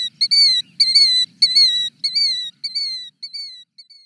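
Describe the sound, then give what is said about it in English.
A killdeer gives a run of shrill, high whistled calls, about seven in quick succession, loud at first and growing fainter toward the end, with a soft low rumble underneath. “Listen for their self-referencing killdeer calls in open areas.”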